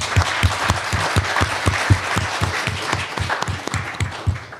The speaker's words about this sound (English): We've got a few minutes for questions, but I'd just like to give a round of applause to our panelists.